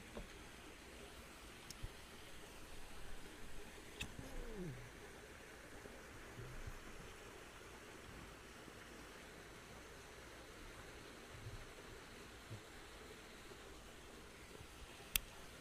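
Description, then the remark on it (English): Water pours in a steady, soft rush for about fifteen seconds in a waterfall smoking device, a quiet continuous trickle with a few faint clicks and knocks, with no talking. “I'm going to show you the waterfall.”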